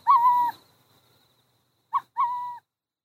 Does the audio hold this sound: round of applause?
no